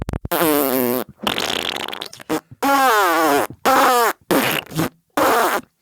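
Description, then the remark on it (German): A voice imitates a herring's fart message, which herrings use to communicate: several buzzy, wavering bursts of blowing and raspberry noises, fairly loud, separated by brief pauses over about five seconds. “Heringe pupsen sich Nachrichten zu. Ganze 5 Sekunden ist so eine Pupsnachricht.”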